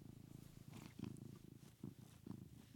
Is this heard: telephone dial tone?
no